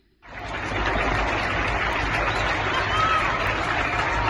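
People applauding from balconies: a dense, steady wash of clapping from many hands starts abruptly and holds at an even, fairly loud level throughout, with no talking.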